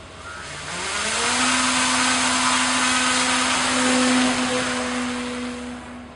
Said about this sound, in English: On the off chance you were out at Bishop Point last week, you might have spotted a small unmanned aircraft in the sky, the same kind of drone that Navy SEALs use for reconnaissance missions.